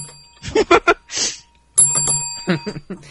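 A bright bell, rung as an 'inappropriate' bell after an inappropriate remark, rings once, loud, its metallic tone lingering under a voice that talks over it; more talk comes just before the ring.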